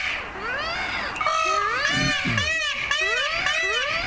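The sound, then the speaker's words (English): Loud, piercing peacock calls from peacocks in the Los Angeles County cities of Arcadia, Pasadena and San Marino overlap for the whole stretch, a chorus of wailing, rising-and-falling cries that sound almost like a baby crying, repeating over and over with no talking. “If you haven't had the pleasure, peacocks reliably sound off at dawn with a noise so piercing. Some neighbors describe it as babies being tortured.”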